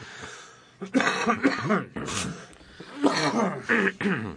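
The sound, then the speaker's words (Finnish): A loud fit of coughing: several harsh, raspy bursts in quick succession, pausing briefly and then starting again, with no talking over them. “tuo yskäisy johtui siitä, että olen itsekin vetänyt liikaa henkeeni.”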